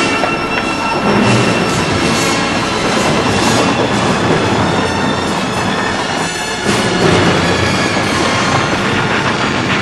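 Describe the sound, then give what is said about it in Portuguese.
A train rolls steadily along the tracks in the early hours of the night, its loud, continuous rattle and rumble filling the space, with a faint metallic squeal and rhythmic clacking from the wheels throughout. “O maldito correu para lá depois de haver tentado atirar-me fora do trem.”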